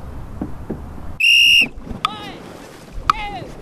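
Open-water ambience from a dragon boat, a stretched-out canoe holding 20 paddlers, a drummer and a steersperson, with wind and splashing, a single long, loud whistle blast, then two short rising-and-falling shouted calls.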